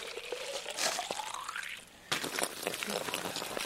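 Fresh groundwater pours steadily into an empty plastic bottle held in the stream at a tree strip on a farm in Brandenburg, its hollow gurgling tone rising in pitch as it fills, then breaking into a broader, splashy rush of running water.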